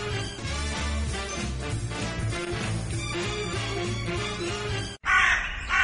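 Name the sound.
crow cawing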